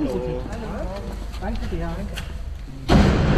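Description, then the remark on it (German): A person talks, then near the end a heavy door to the outdoor courtyard area is shoved open with a loud thud, followed by a sudden rush of louder, airy outdoor noise. “stemmt die Tür zum Außenbereich auf.”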